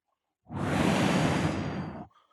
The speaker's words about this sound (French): Dans la nuit, à Sardan City, un bruit de vent.